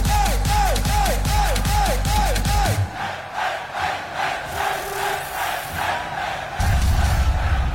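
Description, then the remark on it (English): A festival crowd at Ultra Miami screams and cheers in a sustained roar, framed by pounding electronic dance music with a repeating swooping synth riff that drops out, then the bass kicks back in. “You're screaming like you're partying.”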